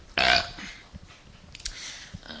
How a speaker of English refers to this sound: I know what you're thinking. You're thinking he just belched, and that's disgusting.